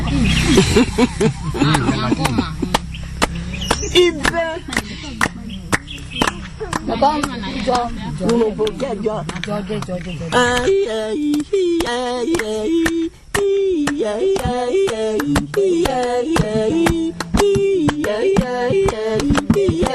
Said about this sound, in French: c'est-à-dire que cette femme va appeler avec les autres femmes, c'est chanté toute la nuit je crois, et elle appelle justement la chance pour que les hommes qui vont chasser l'éléphant soient accompagnés de chance dans leur quête de cet grand animal.